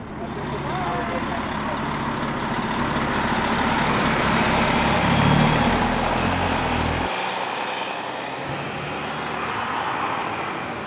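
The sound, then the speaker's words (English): A steady, loud engine rumble and road roar from a bus crossing a high bridge over the bay at the tip of Lake Superior into Wisconsin in the evening, with a deep low drone that shifts and drops partway through before continuing evenly. “The bus goes over the high bridge, crossing the bay at the tip of Lake Superior into Wisconsin as the evening falls.”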